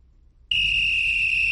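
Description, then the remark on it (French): A referee's whistle blows one long, shrill blast, starting abruptly after a brief quiet moment and held steady at full loudness until the end, with no voices. “c'est le coup de sifflet.”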